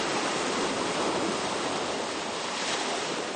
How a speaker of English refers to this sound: During the course of the day, it was a more typical surf that you might expect to hear the water coming in against the shore.